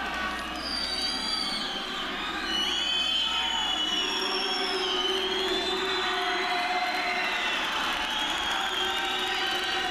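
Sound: howling wind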